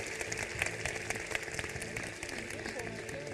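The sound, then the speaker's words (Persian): A group applauds steadily for a few seconds, a dense, crackling patter of many hands clapping at once, with murmuring voices mixed faintly underneath. “دوستانو تشویق کنه، تشویق کنه.”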